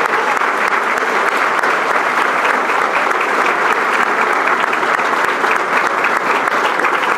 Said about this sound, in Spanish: Pero sobre todo quiero agradecerle a todos estos jóvenes y a la gente que está trabajando detrás y que está haciendo posible, y les pido un fuerte aplauso para todos ellos, que son los que nos van a atender esta noche.